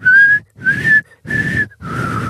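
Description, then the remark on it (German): A person whistles four short, breathy notes in a quick sequence, each a steady tone with a lot of airy hiss, fairly loud with brief gaps between them. “Also ich konnte es jetzt nicht pfeifen, weil...”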